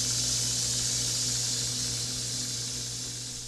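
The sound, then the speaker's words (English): Rattlesnakes in the care of James Van Dyke, brought into a classroom at the University of Arkansas in Fayetteville, rattle in a continuous, dry, high buzzing hiss that holds steady and loud for the whole stretch, with a faint low hum beneath and no voices. “Rattlesnakes, under the care of James Van Dyke, brought into the classroom of Jessica Nolan.”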